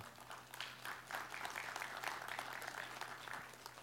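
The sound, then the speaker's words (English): Thin, scattered applause from a small gathering at Central, a soft patter of clapping hands that stays fairly even for a few seconds without building up, sounding subdued. “Well, you know, I'm not too worried that we don't clap all that well, because one of these days we're going to get to heaven.”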